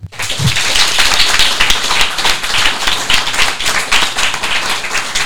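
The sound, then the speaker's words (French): Sustained audience applause for Coluche, creator of the Restos du Cœur charity, and its more than 110,000 volunteers: a dense steady wash of many hands clapping at a fairly loud, even level for several seconds, with no one speaking over it. “Alors je crois qu'on peut applaudir Coluche, le créateur de cette association, et surtout les plus de 110 000 bénévoles des Restos du Cœur.”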